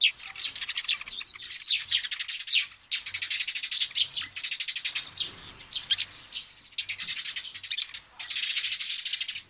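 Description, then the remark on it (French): Eurasian tree sparrows chirp in busy, overlapping bursts throughout, a bright chatter of rapid calls with only brief pauses, no voices present. “Parmi les espèces en danger d'extinction, on compte le moineau friquet qui a perdu 80% de sa population en 20 ans.”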